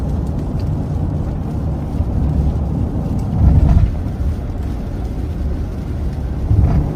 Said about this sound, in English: That Mustang's coming on you pretty fast. She just ran a red light. We're up with you. Yeah, that's a fast little car. She's right behind you now.